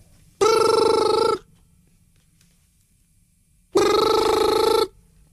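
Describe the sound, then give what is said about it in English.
A telephone rings twice in a steady pattern, each loud buzzing burst lasting about a second with a long pause between, with no voices, and no one answers it. “ringing, but no one answers. It just ignores it.”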